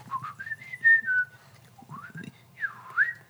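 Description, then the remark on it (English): A person whistles a series of sliding, warbling notes that imitate birdsong, rising and falling in pitch over a low background rumble, fairly loud. “We're getting the sound effects. We're getting the bird.”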